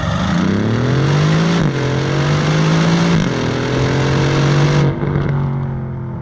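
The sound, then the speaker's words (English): A powerful Aston Martin V8 sports car engine is started and revs loudly, climbing in pitch three times in quick succession before dropping back to a deep, rumbling idle. No one speaks. “We ignite the car. That engine.”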